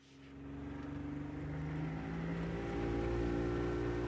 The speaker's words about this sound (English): The boat heads out into the bay.